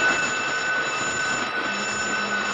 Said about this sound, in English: Stand by to abandon. She's going, sir. Shall I sound the alarm? Yes.